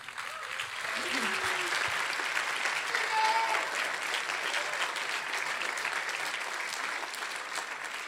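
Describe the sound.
A festival audience claps steadily for several seconds to welcome a young author before his book reading, a dense, even wash of applause at moderate loudness, with a few faint voices and brief whoops mixed in near the start.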